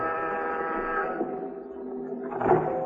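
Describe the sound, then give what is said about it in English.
A door buzzer, pressed at an address down in the village, drones with a steady, buzzy, low-pitched tone that holds for about a second, then tapers, followed by a short louder rasp near the end. No voices. “As you press the door buzzer, you wonder what Pat had found out.”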